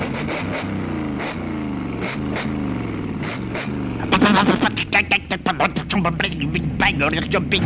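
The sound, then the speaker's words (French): A voice imitates an old motorcycle with a sidecar driving off at full speed at night, a rising and falling drone that breaks into a rapid series of loud, sputtering pops and backfires as it seems to rev up. “La vieille moto pétaradait dans la nuit noire.”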